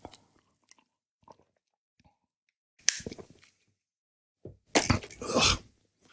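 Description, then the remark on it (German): Sips of warm coffee: a sharp slurp, then a louder, longer burst of slurping and gulping swallows, with faint mouth clicks in the quiet between. “Naja, immerhin, auf die Weiße habe ich noch einen Schluck warmen Kaffee bekommen.”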